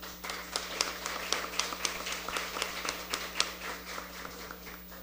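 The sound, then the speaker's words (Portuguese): An audience applauds steadily as an honoree receives the Genival Alves Ramalho commendation at a city council ceremony, many hands clapping in a dense, continuous patter with occasional sharper claps standing out over a low steady hum. “Recebe a comenda Genival Alves Ramalho, o senhor Elton Aguiar Neves. Aplausos.”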